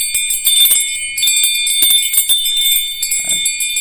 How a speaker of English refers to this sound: Then we've got my bells. I like to do a thing when I do a treatment with Tibetan bowls to actually move up to ting shas and then to the little bells.